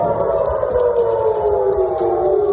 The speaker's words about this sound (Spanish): Hace poco volvieron a sonar las sirenas en el norte de Israel.